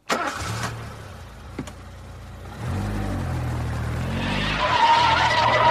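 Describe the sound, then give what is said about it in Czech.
A hot-wired car engine cranks and catches, idles roughly, then revs hard and accelerates away with rising engine roar and tire noise, loud, no voices. “Tyhle dva dráty by měly být od zapalování a tenhle třetí je snad startér.”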